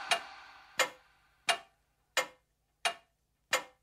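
A clock ticks six times at a steady, unhurried pace, each sharp, bright click ringing out briefly and fading before the next, with no voices or other sounds.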